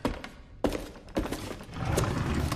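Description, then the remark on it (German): A drawer is pulled open while searching for a list of phone numbers, and it turns out to be empty: two sharp wooden thunks followed by a longer, rumbling slide. The sounds are fairly loud and no one speaks. “Nichts. Die Schublade ist leer.”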